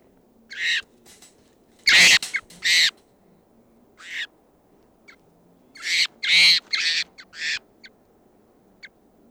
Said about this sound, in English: Morning of October 14th, and there's a wild bird coming in. Stop. Two birds, and they're circling and going down to the tree above the net.